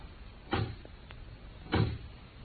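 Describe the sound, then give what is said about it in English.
A door opens quietly as someone enters, with two soft, muffled thumps about a second apart and a faint click between them, amid otherwise hushed silence with no talking. “There's someone outside the door.”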